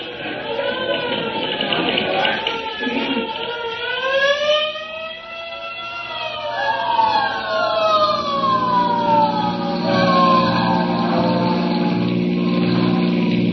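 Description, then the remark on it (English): A hook and ladder fire truck on the street sounds its wailing siren, rising and falling in sweeping, overlapping pitch glides, loud and continuous, with a low steady engine rumble growing beneath it toward the end. “Say, there's a hook and ladder on the street right now.”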